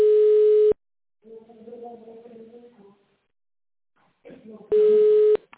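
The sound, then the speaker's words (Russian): A telephone ringback tone sounds while a call connects: two loud, steady, mid-pitched beeps, each under a second long and about four seconds apart, with a quieter voice speaking in the gap. “Ожидайте соединения.”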